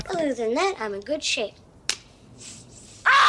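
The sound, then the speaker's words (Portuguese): A man talks briefly, a sharp click cuts the quiet, then a sudden loud, strained yell bursts out at the very end: a voice imitating the scream of a film character putting on aftershave while shaving, abrupt. “Daquele puta grito por causa disso.”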